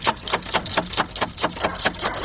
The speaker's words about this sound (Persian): ده این نصف شاو دروزه را کی میزنه؟